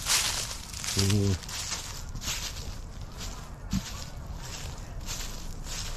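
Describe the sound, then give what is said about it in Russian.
Dry rustling and crunching underfoot as someone walks, a steady texture across the whole stretch, with a brief voiced sound early on and a short knock midway. “Слышите, вот шуршит у меня под ногами.”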